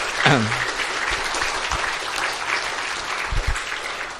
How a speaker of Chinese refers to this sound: 咱搁一边感谢，用我们的掌声，